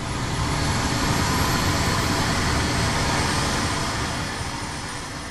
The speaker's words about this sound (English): An EC-135 takes off from the helipad, the $5 million ambulance cutting through a thick gray sky.